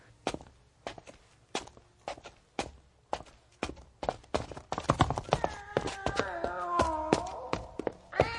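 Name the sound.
cat meowing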